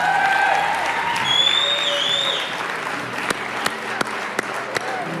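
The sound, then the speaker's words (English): An audience breaks into loud, sustained applause for the North Park University Gospel Choir as it comes to the stage at a Friday evening church service, with sharp whistles and cheers rising over it early on. Toward the end the clapping thins out to a few scattered, distinct claps. “Would you give it up for the North Park University Gospel Choir?”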